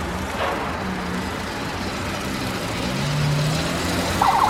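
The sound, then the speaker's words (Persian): A car drives up toward a company's premises, its steady engine rumble and road noise gradually growing louder, with a brief high whine near the end. No one speaks. “مالک با ماشین میاد سمت شرکت.”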